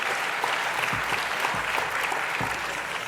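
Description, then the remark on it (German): Steady, dense applause from a crowd, many hands clapping in a continuous wash of sharp claps at an even loudness for about three seconds, with no talking. “Wem gilt jetzt der Applaus?”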